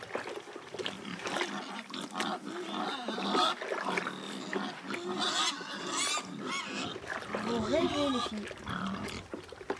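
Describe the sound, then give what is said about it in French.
Pigs grunt and snort continuously, a dense run of rough, overlapping oinks and snuffles with a murmur of voices mixed in underneath. “Surprise les gars. Cochon, cochon, cochon.”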